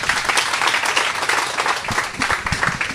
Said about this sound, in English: And one more round of applause for her.